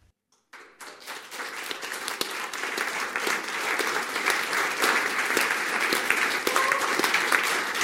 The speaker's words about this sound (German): Am Applaus hat man es gemerkt, es hat ganz viele Gipfelstürmer da oben im Berggasthaus Kronberg, da oben auf 1660 Meter über Meer,